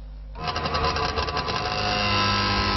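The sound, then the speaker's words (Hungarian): The small two-stroke engine of an original old East German Trabant car starts up and runs at a steady, buzzing idle, fairly loud, with a rough rattling character and no talking. “A hang a régi, ám a német Trabant tulajdonosok már eddig is számtalan új modellt készítettek az eredetiből.”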